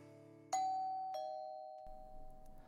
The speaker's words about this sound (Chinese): 玉泉按了门铃，一个陌生的男孩开了门，估计凌飞在忙。